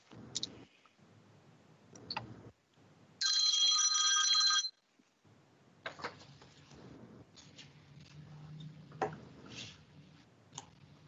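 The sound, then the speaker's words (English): A phone notification tone rings loudly for about a second and a half during a meeting, a bright chiming burst amid quiet clicks and shuffling room noise, with no one speaking. “Sorry for the notification problem. My fault.”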